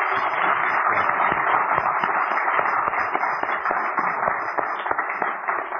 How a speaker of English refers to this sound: Give him a warm... Let's keep the clapping going, because I think Joe really needs to hear it.